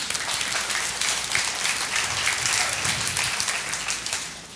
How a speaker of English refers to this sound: Guys, that was a very feminine clap just then.